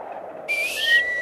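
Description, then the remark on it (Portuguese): A brief, high whistle rings out for under a second, a thin steady tone sliding slightly lower, over a breathy rush of air and no voices. “E quem foi que assobiou?”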